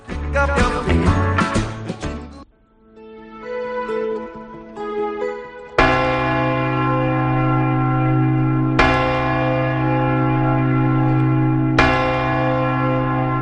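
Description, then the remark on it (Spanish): Church bells chime to see out the old year, with no talking: a quick jumble of peals, then softer strokes, then three loud, deep strikes about three seconds apart, each ringing out in a long resonant hum. “Sí, ya queda muy poquito para ir escuchando esos toques, esas campanadas que nos hablan de despedir un año en el que desde luego hay muchos motivos para hacer balances, pero también marcar deseos para el próximo año.”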